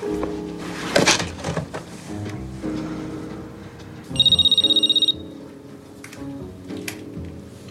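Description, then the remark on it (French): An old-style telephone bell rings in one brief, rapid metallic trill lasting about a second, clear, over a dim, murky background with a few soft knocks and thumps. “Excuse-moi, je prends le téléphone, je casse mon portable.”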